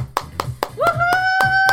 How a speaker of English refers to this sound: Once again, parents, let's give our kids a big round of applause.